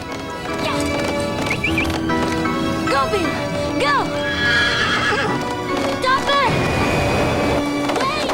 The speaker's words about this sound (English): Ramada runs to her stallion, vaults onto him, and gallops after the jet.